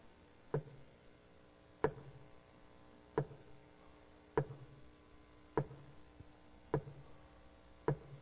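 A leaking shower drips steadily at 2 o'clock in the morning, seven sharp plinks falling at slow, even intervals about a second and a half apart, clear against a quiet background with no talking.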